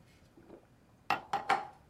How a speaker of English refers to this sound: He pours himself a glass of water from a pitcher on the counter. Then chugs from the glass and sets it down.